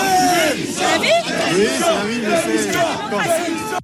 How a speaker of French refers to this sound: Vous avez été hué, des cris de démission, vous avez même pris, semble-t-il, un projectile, peut-être même un crachat.